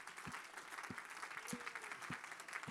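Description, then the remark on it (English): An audience claps hands in praise to God, a dense, steady wash of applause from many people with sharp rhythmic low thumps every half second, moderately loud and continuous. “Just give him a good hand clap of praise.”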